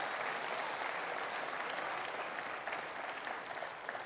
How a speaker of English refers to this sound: Give the Lord a clap offering in his house. I know you want to. Oh, thank God for Jesus.